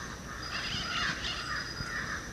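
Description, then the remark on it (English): A crow close by caws in harsh, raspy calls that run together almost continuously for a couple of seconds, fairly loud and heard alone with no voices. “There's a crow close to us and the black crow parrots overhead.”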